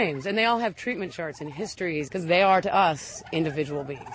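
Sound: turkeys gobbling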